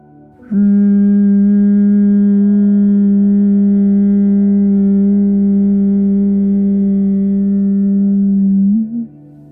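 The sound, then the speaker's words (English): A voice hums one long, steady, low tone on an exhale in imitation of a buzzing bee, during a breathing exercise in a soul sync session. The hum is loud and even, lasts about eight seconds, and lifts slightly in pitch just before it stops. “Inhale deeply, and on your exhale, make a humming sound like a bee.”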